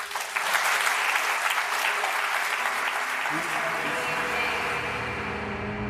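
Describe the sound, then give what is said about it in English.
Steady, dense audience applause of many hands clapping, sustained at an even loudness for several seconds with a faint murmur of voices beneath it. “The tears, the applause.”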